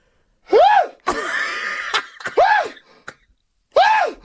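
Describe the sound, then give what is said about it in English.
A voice imitates a wife's abrupt sneezes: a few short, sharp vocal bursts, one with a breathy, hissing blast, spaced irregularly, with no speech. “I want to add my wife's sneezes are a beige flag as well, because she doesn't sneeze in a way that, like, makes me think that she's sneezing.”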